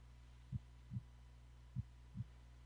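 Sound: slow heartbeat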